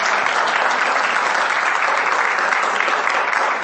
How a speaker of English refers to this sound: You're a little bit shy, but I'm going to take this moment to give a special applause to you. Thank you very much.